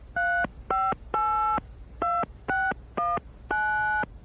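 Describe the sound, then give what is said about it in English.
A series of seven telephone keypad tones, dialed in quick succession with short gaps, each a steady electronic beep, some held a little longer, clear, with no talking; someone dialing a phone call to a hotel. “I've got to make a few phone calls first.”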